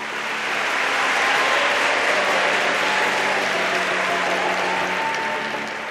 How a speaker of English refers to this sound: The class was so big, we had to teach it in the university concert hall. That tiny, polite ripple of applause you might get at the end of a lecture? Well, it turned into this.